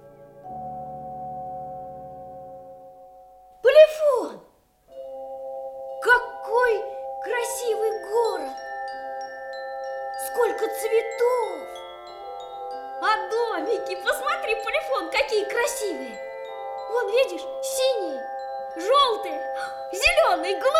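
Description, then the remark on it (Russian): Small bells ring out in a bright, tinkling melody in a city of bells, with many overlapping chimes whose tones linger and fade. A soft sustained tone opens the passage before a brief whoosh. “Это город колокольчиков.”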